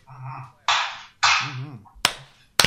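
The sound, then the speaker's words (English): An audience, asked by a speaker for a couple of claps, gives a few sharp, loud claps, two crisp cracks standing out near the end after bursts of hissy noise and some murmured voices. “If you want to give me a couple claps, please.”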